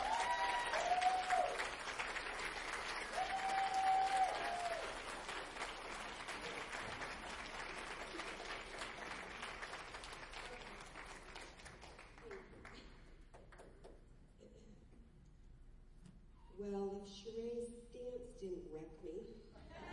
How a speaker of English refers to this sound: So I just want you to receive her with a huge clap.